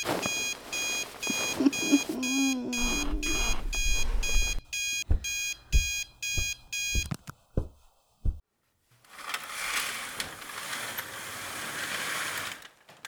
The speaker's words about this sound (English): can't you turn yourself off, alarm clock?